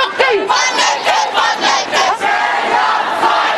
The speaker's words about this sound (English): They warned this would come. And now the multitudes have arrived. The protest cries of tens of thousands echoing through the capital.